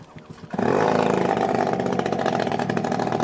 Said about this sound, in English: Those drones revving their engines look like big toy planes, but this model can fly more than 1,000 kilometres, and Ukraine has others now that go twice that far.